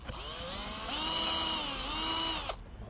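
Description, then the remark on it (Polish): A power drill bores a little further into wood, its loud, steady whine rising and wavering slightly with load for about two and a half seconds before cutting off abruptly. No one speaks. “Tu troszkę można jeszcze podwiercić.”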